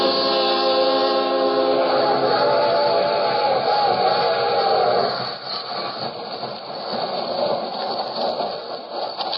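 A train rolls along steadily with a dense, continuous rumble. A droning tonal hum rides on top for the first half before it gives way to rougher clattering noise. No voices are heard.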